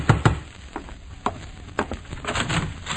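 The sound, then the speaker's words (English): Heavy knocking on a door: two deep thuds right at the start, followed by scattered, lighter raps at uneven intervals against a faint hiss. “Open! Open the door!”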